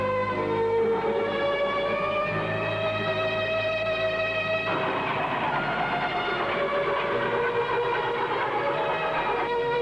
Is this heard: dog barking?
no